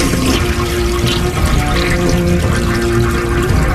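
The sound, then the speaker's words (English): A toilet in a bathroom stall flushes in one long, steady rush of water, loud and sustained for the whole stretch with a faint gurgling hum beneath, and no voices. “See, because it's a long flush.”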